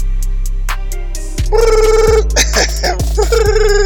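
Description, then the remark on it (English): A phone ringtone plays loudly, a repeating electronic melody with steady tones and a low droning beat, as an outgoing call goes unanswered; no voices. “Damn, this nigga's not picking up, so then text him.”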